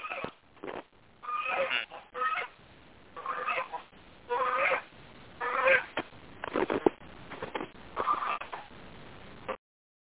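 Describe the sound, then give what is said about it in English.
A gander named Jack honks loudly and repeatedly, a string of harsh, nasal calls in uneven bursts with short pauses between, and no one speaking, as the geese are being put away for the night. “and Jack the Gander likes to drop in low and attack her.”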